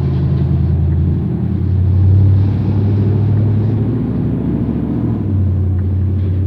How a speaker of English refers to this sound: Let's let that truck go by.